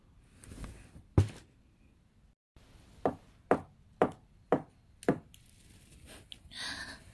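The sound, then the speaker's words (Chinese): Five firm knocks on a toilet cubicle door in an even, steady rhythm, preceded by a single earlier thump and followed by soft rustling, with no talking. “5下敲门声，我知道那个帅哥来了，赶紧打开了门。”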